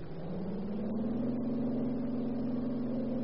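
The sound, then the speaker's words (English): A car engine revs up and pulls away, its low droning pitch climbing steadily as it accelerates. The sound is fairly loud, with no voices over it. “Get in the car.”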